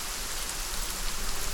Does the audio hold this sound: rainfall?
yes